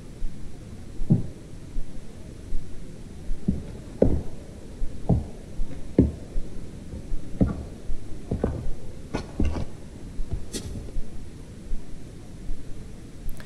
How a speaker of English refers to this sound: So to all intents and purposes, that sounds like footsteps. You don't hear them arrive, you don't hear them leave, but it really does sound like somebody. You can even hear the heel toe. I know, that sort of heel toe and that sort of scritch.